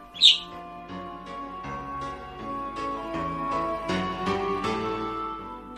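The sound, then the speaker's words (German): A budgerigar lets out one sharp, bright chirp right at the start, then the sound gives way to a steady bed of soft, sustained musical tones with no talking. “Hinter ihnen her flattert ein erschöpfter Wellensittich.”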